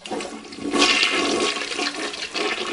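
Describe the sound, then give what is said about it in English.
A low-flush toilet flushes with a steady, rushing gush of water that surges loudly near the start and then continues evenly throughout, with no voices. “Well, the low flush toilet is a national issue.”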